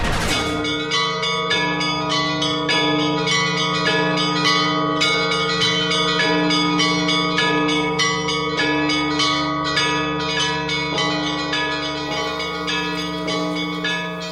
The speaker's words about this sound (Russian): Вот этот красивый пасхальный перезвон совершенно не случайно в начале эфира программы «Рикошет».